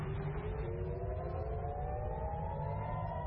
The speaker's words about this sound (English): Those are air raid sirens triggered in Tel Aviv on Friday, just after midnight Tel Aviv time, 2140 UTC.